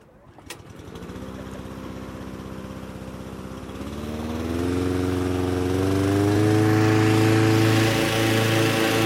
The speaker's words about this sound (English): So what they've got a fan blowing air into the balloon to kind of inflate it really roughly. And then I guess in a minute they're going to turn on these propane heaters to heat that air.